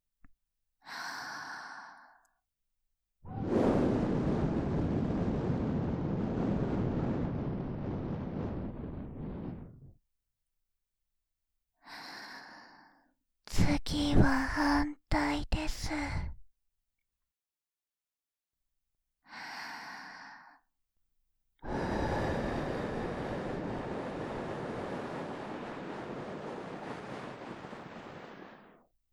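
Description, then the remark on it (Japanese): Breathy exhalations blown right into the ear canal, several long airy gusts with short inhales between them, plus a brief cluster of rustling, crackly contact noises midway. No talking. “吐息を耳穴に吹き込まれると体ビクビクと反応してしまいますよね。”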